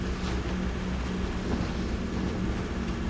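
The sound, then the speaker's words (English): A motor boat, the Moonstone, roars along at full throttle toward a downed plane, its engine a steady, loud drone mixed with rushing water and wind buffeting the microphone, with no voices. “At the wheel of the Moonstone, Dawson heads full throttle towards Collins' downed plane.”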